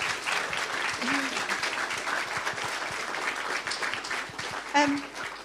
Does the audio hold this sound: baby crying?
no